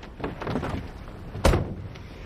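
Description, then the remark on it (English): A car door shuts with a single solid thump partway through, fairly loud, over a low background rumble with faint movement before it, as two people get into the back seat of a car. “holds the door.”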